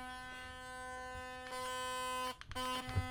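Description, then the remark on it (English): A Diamond Care DC 4200 electric toothbrush head vibrating on its soft setting, vibrating freely in the air against nothing: a steady, mid-pitched electric buzz that briefly cuts out near the end, then resumes. “It's normally not that loud. It's just that it's not vibrating against anything.”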